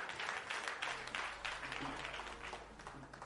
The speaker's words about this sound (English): Hallelujah. Clap your hands.